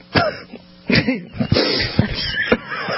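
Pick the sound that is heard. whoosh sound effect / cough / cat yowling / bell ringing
cough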